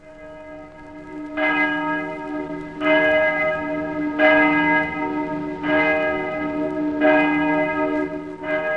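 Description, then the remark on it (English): The great bell of St. Paul's Cathedral tolls slowly and steadily for a royal funeral, five heavy strikes about one and a half seconds apart, each ringing out with rich overtones and a long hum beneath, no voices. “The great bell of St. Paul's tolled its requiem, and the first royal funeral ever to be heard by a nation was solemnly observed.”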